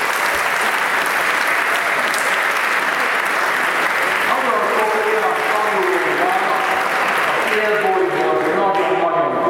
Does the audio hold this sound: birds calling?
no